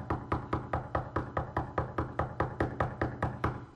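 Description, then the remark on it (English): Rapid, steady knocking on a door, roughly fifteen evenly spaced knocks in under four seconds, fairly loud, with no voices, depicting Peter knocking in the Bible account. “But the Bible said in verse 16, but Peter kept knocking.”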